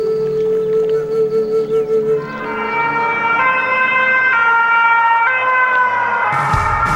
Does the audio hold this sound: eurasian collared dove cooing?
no